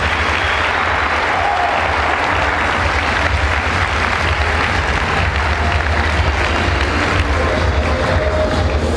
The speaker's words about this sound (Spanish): Y sinceramente les pido que sea un fuerte aplauso por estar aquí hoy, por darse el tiempo de crecer.